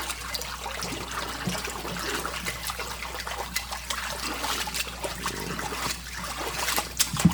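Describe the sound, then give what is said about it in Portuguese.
Steady trickling water in a swimming pool, a continuous bubbling, splashing wash that stays even throughout, with small irregular splashes and no voices. “Aí agora a Aline vai pra piscina, vai tocar na piscina e tudo. E aí só de ver a água vai acabar o meu calor.”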